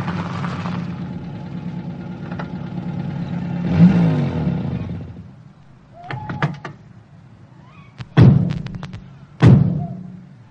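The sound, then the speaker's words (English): A car engine rumbles and revs up, then cuts out, followed by a few clicks and two solid car door slams, with no talking. “Oh, well, my car's parked at the station. I suppose the only decent thing I can offer to do is to drive you home.”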